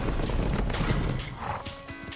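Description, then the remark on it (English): Several horses, about 15 riders in a movie trailer scene, clop and thunder along, a dense rumble of hooves with a brief whinny rising near the end, all heard without any talking. “You know, like that scene right there where he comes out, and it was like 15 guys on a horse.”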